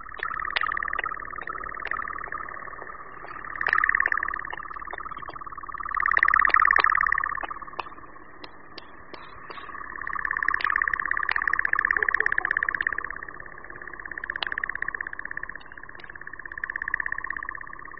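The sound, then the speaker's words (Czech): A male European nightjar churring at night during its courtship flight: a long, unbroken mechanical trill with no voices, swelling and fading in loudness over time, with scattered sharp clicks and snaps. “Hned po návratu následuje období toku, kdy můžeme v noci slyšet dlouhé vrčení, volání, bublání a pleskání křídel, což jsou zvukové projevy doprovázející svatební let samce.”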